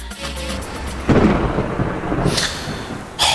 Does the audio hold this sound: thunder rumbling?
yes